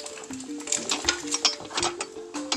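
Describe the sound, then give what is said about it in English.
Silverware and dishes clink and clatter in quick, irregular bursts, with a steady melodic tone, likely background music, running underneath. “I don't have any silverware. Well, dude, I have a silverware in there.”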